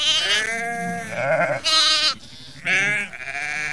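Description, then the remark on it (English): Four or five goats in a small run-down house bleat in quick succession, loud, their wavering cries overlapping in a noisy burst with no talking. “something like 4 or 5 goats jumped from all corners of this little run-down house and came and licked Herschel's hands”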